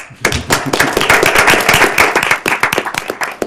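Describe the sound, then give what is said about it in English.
An audience claps steadily, many hands producing a dense crackle of sharp, overlapping claps that starts abruptly and tapers slightly toward the end, with no voices. “We can clap.”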